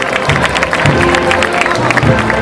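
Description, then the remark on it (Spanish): A large crowd in the streets of Ciudad Real during Holy Week gives a big ovation, applauding and cheering in a dense, sustained roar, with clapping and scattered voices blending into a loud, continuous wash of sound. “Pero que han despedido a José Luis Salcedo con una gran ovación”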